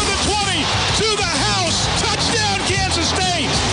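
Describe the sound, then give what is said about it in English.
A large stadium crowd roars continuously, with surges of massed voices rising and falling in a rough chanting rhythm. Loud and dense, with individual yells poking out of the din. “Hear the roar. Scream the chant.”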